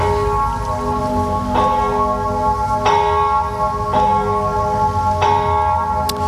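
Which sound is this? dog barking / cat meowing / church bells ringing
church bells ringing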